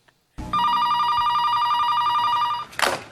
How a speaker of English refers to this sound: So Defoe's phone rings, and he takes the call while this twink is laying on him.